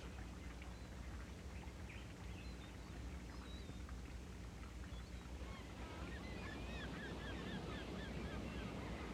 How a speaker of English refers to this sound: And imagine that you're laying on your back by the ocean, and as you breathe, you can hear the ocean in the background. And each time you breathe in, a wave is rolling up the beach.